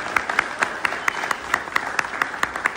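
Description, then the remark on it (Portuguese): An audience applauds a former party leader and federal deputy, many hands clapping steadily in a dense, crackling wash with sharper individual claps standing out at a fairly regular rhythm. No one speaks over it. “do partido do Bira, do Pindaré, que foi líder e fez um grande trabalho como deputado federal, que merece o nosso aplauso.”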